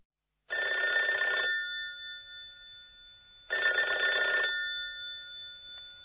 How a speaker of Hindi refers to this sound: तो दोस्तों, अगली आवाज सुनकर आपके मन में क्या छवि बनती है? पुरुरुरु। ये तो फोन की घंटी की आवाज लगती है। बिल्कुल सही।